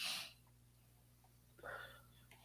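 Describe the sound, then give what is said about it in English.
A single sharp sneeze bursts out at the start, followed after a short quiet pause by a softer breathy exhale, with no talking. “God bless you, man.”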